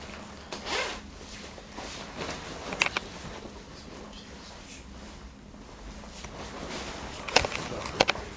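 A zipper is pulled open in several quick rasping strokes, with fabric rustling and sharp clicks as a coat comes off. Faint voices murmur underneath.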